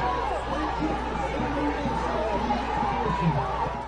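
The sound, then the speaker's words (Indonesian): A large crowd of abortion-rights activists protesting in the street in America shouts and chants "my body, my choice" together in a steady, dense roar that stays loud throughout, with no single voice standing out. “Teriakan tubuhku pilihanku membahana, sementara para aktivis berkomitmen memperjuangkan apa yang mereka katakan sebagai kebebasan reproduksi.”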